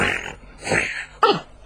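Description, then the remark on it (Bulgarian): A horse that has just woken in the stables snorts loudly in three breathy, rasping bursts, the last one sudden and strongest, sliding downward in pitch with a rough, fluttering edge. No one speaks. “В това време в конюшните се събудил един кон и силно запрахтял.”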